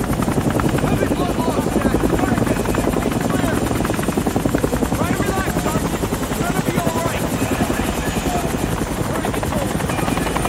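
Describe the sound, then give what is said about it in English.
Loud, steady helicopter rotor noise fills the whole clip, a dense rhythmic chopping thrum with a whining engine hum, as if heard from inside the aircraft; faint voices may sit beneath it. The helicopter is carrying soldiers and veers in flight. “The helicopter veers and the soldiers hang on.”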